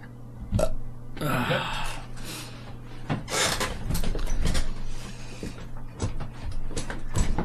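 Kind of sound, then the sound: household object, chair being moved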